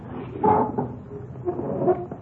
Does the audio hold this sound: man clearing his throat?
no